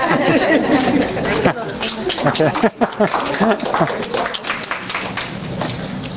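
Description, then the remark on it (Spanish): An audience claps steadily for several seconds, a dense crackle of many hands mixed with crowd chatter and murmuring voices, staying fairly loud throughout before easing slightly toward the end. “Un aplauso.”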